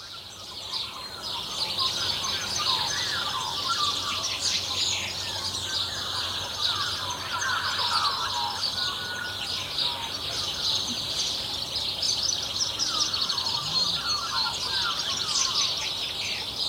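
A dense New Zealand dawn chorus of many birds singing at once in the morning, overlapping chirps, trills and whistles forming a steady, lively wash of high-pitched song that continues throughout without pause.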